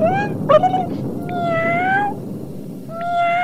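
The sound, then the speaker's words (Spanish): A family of cats meowing in long, drawn-out calls, several overlapping wails rising and falling over a low rumbling background, fairly loud, with no talking. “¿Qué tiene que ver una familia de gatos en todo esto?”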